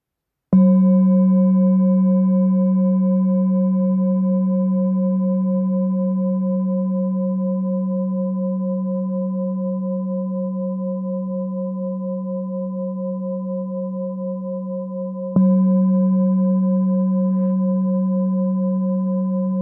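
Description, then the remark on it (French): A light, 870-gram singing bowl tuned to F is struck with a mallet twice, about fifteen seconds apart, each strike blooming into a long, steady, low humming ring with shimmering overtones that fades only slowly. “On l'écoute d'abord à la frappe mayoche.”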